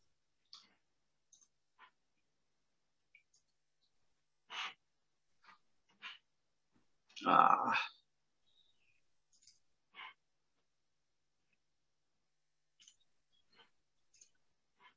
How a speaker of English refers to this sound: Are you clicking all those buttons in the share screen area where you have to coordinate? I am, but.